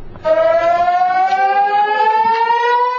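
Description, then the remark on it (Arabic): Civil defense rocket air raid sirens in cities and settlements across Israel, set off by a technical fault in the warning systems, wail steadily and loudly, a sustained rising tone with rich harmonics that starts abruptly and holds for the whole stretch, with no voices present. “دقائق من الرعب عاشها المستوطنون في أغلب المناطق في فلسطين المحتلة عندما انطلقت صفارات الإنذار نتيجة خلل في منظومات الإنذار المنتشرة في مختلف المستوطنات والمدن المحتلة.”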